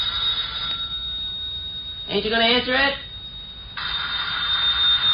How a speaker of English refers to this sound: Telephone's ringing. Ain't you gonna answer it?